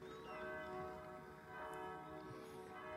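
Church bells ring steadily in a picturesque park around a castle, their overlapping tones blending into a rich, sustained peal, with no talking.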